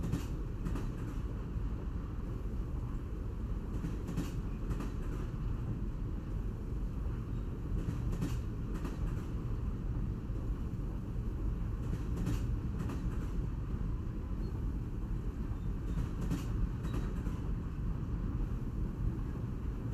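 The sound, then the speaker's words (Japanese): A steady low rumble of a train rolling along rails shortly before stopping at the next station, with paired clacks from the wheels passing over track joints every few seconds. It is heard from inside the carriage, with no talking. “もうすぐ停車する次の駅でもどんなことが待っているのか楽しみです。”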